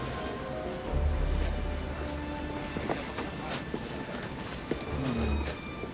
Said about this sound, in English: Here. This is the 23rd Street subway station.